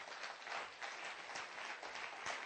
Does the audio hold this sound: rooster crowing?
no